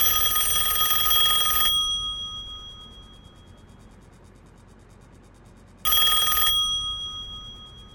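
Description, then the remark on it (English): A telephone bell rings loudly in a long metallic burst, falls silent for several seconds, then starts again with a shorter ring. There is no talking. “If you don't stop ringing me, I'm going to call the police.”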